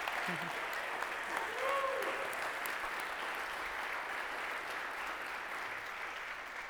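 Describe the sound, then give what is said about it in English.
A steady wash of audience applause, many hands clapping at once in a dense, even roar that holds for several seconds and thins only slightly toward the end, with a brief faint whistle early on. “Let's give these guys, especially Caroline, for carrying them, a round of applause.”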